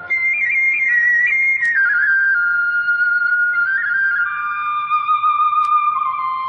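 A bamboo flute, played by a young man of about 16 or 17 sitting in a hammock on a mountain, plays a sustained, wavering melody with gentle trills, its notes gliding steadily downward at moderate loudness, heard alone without any voices.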